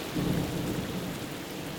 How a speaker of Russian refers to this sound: Начинается гроза.